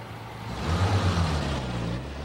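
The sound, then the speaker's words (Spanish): A car engine rumbles low and steady as the car drives away, swelling briefly before settling into a continuous drone, with no voices present. “El coche se aleja.”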